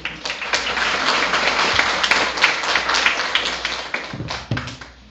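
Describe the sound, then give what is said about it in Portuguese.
A crowd at a municipal gathering applauds as the town's first lady is introduced, with steady, dense clapping that stays loud and fairly even for several seconds, with no voices over it. “Bom, para finalizar de vez, para nós não se alongarmos demais, a nossa primeira dama finaliza então as falas, Emilene Ribeiro, salve de palmas.”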